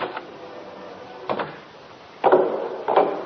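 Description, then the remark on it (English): A door is handled: a few separate wooden clunks and rattles, the last two louder, as it is unlatched and swung open to answer a caller, with no voices. “I'll just go and answer the door.”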